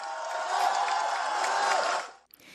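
A large crowd at a rally outside the Court of Final Appeal in Central, Hong Kong, claps loudly and steadily for about two seconds to salute friends in prison, a dense wash of applause with some cheering mixed in, before it suddenly cuts off.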